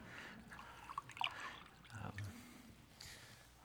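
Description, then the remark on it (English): Water being poured into a glass, a soft splashing trickle with a few drips, fairly quiet and lasting a few seconds with no talking. “Don't mind if I have a glass of water.”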